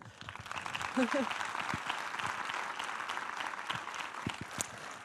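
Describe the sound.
Steady applause from an audience, a dense crackle of many hands clapping at a constant, fairly loud level throughout, with a few brief voice fragments showing through.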